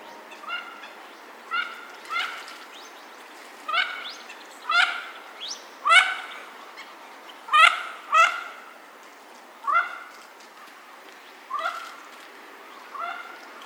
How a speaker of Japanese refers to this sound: 東京都渋谷区にある明治神宮、荘厳な本殿を囲むように深い森に覆われています。森の中には池が3つあり、水鳥たちが集まっていました。聞こえてきたのはおしどりたちの声です。